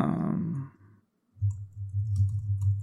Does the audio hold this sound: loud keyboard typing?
yes